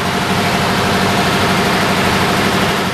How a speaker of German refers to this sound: Als Motor dient hier ganz simpel ein alter Lastwagenmotor. Es ist auch sehr simpel eigentlich aufbauen. Es ist im Prinzip nur ein Motor. Der Motor tut den Generator antreiben und der Generator macht Strom.